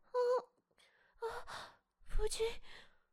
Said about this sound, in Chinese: 夫君，你喘息的好厉害，可是这么重要的日子，你为何始终一言不发呢？